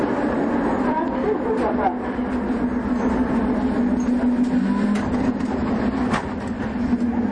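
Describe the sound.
Steady rumble of a metro train running underground in the Tashkent metro, with a droning hum, occasional clanks and rattles, and faint murmuring voices blended into the constant, fairly loud ambience.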